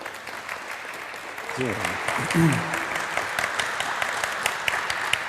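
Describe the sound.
An audience applauds steadily to welcome a speaker, a dense crackle of many hands clapping, with a voice briefly speaking over it partway through.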